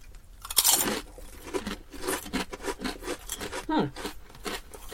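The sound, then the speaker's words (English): Loud crunching of vinegar and onion kettle chips, a sharp bite followed by repeated rough chewing crunches, with faint bits of voice in between. “So shall we crunch? Let's crunch.”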